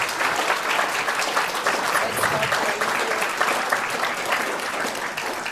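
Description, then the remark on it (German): An audience claps steadily for several seconds, a dense, even wash of many hands applauding with no pauses. “Ich finde das einen Applaus wert.”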